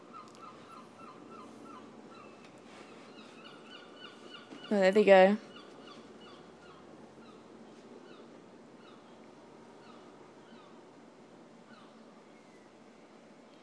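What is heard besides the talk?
seagulls calling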